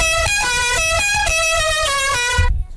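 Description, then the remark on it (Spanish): A loud, buzzy musical car horn blares out the La Cucaracha melody, a quick series of stepped notes in a bouncy rhythm, ending abruptly with no voices. “y yo por mi orejita le oigo decir estoy, pues yo pongo la cucaracha.”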